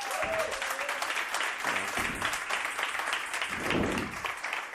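Sustained audience applause fills the room, a dense steady patter of many hands clapping at once, loud and continuous throughout, with a few faint voices mixed in.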